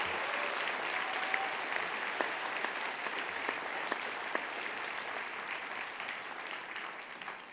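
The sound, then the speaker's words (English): A church crowd applauds steadily for the Saddleback Corral and worship team, a dense wash of many hands clapping at an even level that holds for several seconds before easing slightly at the end. “Let's hear it again for the Saddleback Corral and our worship team.”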